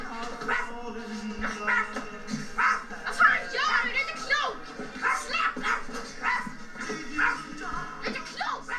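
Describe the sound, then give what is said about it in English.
A young voice imitates a dog, letting out a string of yapping barks and whimpering yips in irregular bursts, fairly loud, with some background noise underneath; it is the child character Ingmar barking like a dog in the film My Life as a Dog. “What you just heard was dog barking.”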